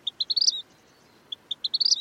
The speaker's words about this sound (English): So I go on Google, I'm like, vermilion flycatcher bird song. And it's a very, very beautiful whistle. And it is very distinct.